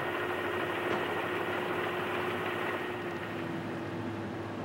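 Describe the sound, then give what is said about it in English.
A heavy flatbed truck engine rumbles steadily as the truck drives up a ramp during a ceremony at Ground Zero, carrying the last load, known as the Stars and Stripes beam. A droning mechanical hum sits over broad, even noise, and its loudness stays nearly constant throughout, with no voices. “That flatbed truck is going up the ramp now.”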